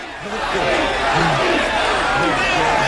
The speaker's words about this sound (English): Rocky pummels Tommy in the stomach again and again. Until he finally floors him with an uppercut. The crowd go wild, and Adrian and Robert hold him up.